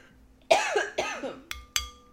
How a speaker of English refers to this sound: I coughed away from it.